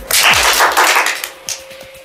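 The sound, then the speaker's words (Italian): A crowd at Dinamo Camping, counted in with "1, 2, 3" to give a single applause, claps once together in a loud, dense burst that dies away after about a second, followed by a few scattered stray claps. “Però, scusate, però io avevo detto un applauso solo, 1, 2, 3.”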